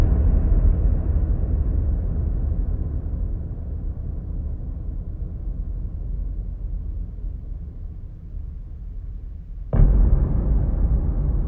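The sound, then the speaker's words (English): A deep, cannon-like boom opening a film rumbles with a long, heavily reverberant tail that slowly fades, then a second loud boom strikes abruptly near the end, echoing. “Both films open with dystopian booms, like a cannon, drenched in reverb.”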